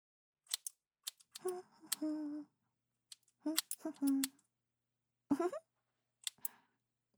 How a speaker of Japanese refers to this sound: 君はいつも通りお姉ちゃんに全部任せて、ゆったりハサミの音でも楽しんでなさい。